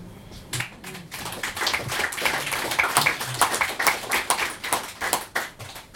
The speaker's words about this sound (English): I feel like I'm forcing you to clap because I'm drinking water in between my eyes.